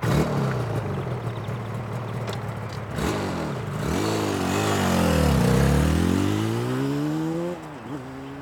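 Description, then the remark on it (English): A motorbike engine idles steadily, then revs up and down several times in loud swells before dropping back briefly near the end. No voices. “My cousin can ride a motorbike. He rides in motorbike races.”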